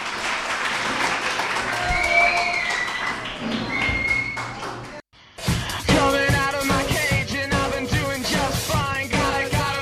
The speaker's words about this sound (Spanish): Un aplauso a vuestros compañeros.